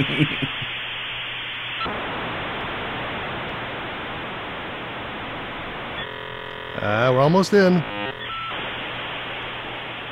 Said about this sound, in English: And dial phone still. I know. Wow. No area code. Ah, that 56K modem's really screaming, isn't it?